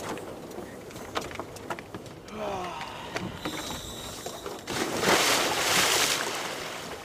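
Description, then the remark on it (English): Ambience on the deck of a University of California research vessel at sea off the coast of Santa Cruz on a dark autumn morning as four crew members get ready to dive, with steady low engine rumble, scattered clanks and knocks of air tanks banging against heavy gear, and a broad rush of water or wind swelling louder near the end. “on a dark autumn morning on the University of California research vessel Paragon off the coast of Santa Cruz”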